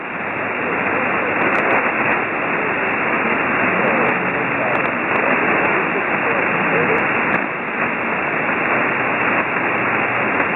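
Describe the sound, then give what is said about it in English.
Steady, band-limited radio static hisses throughout, with a faint ham radio transmission, received in Akron, Ohio, barely rising above the noise and a few brief clicks breaking through. “Well, you're just above the noise level to me in Akron, Ohio.”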